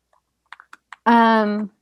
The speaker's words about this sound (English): The liver, I'm just typing out the question.